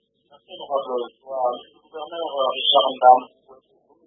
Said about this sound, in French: Alors, monsieur le gouverneur, juste vous demander d'éteindre le poste radio qui est à vos côtés. Vous pouvez nous suivre sur votre téléphone, ça permettra d'améliorer la qualité de la ligne.